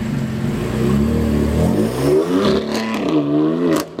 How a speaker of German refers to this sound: Sie holt ihr Auto aus der Garage, verfrachtet Gustav und Luna auf die Rückbank und schon geht's los.